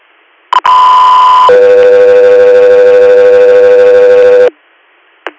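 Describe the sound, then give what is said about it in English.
A loud two-part Guthrie Air dispatch alert tone: a steady high beep for about a second, then a longer, lower sustained tone lasting around three seconds, followed by a brief click. “Stand by for tones.”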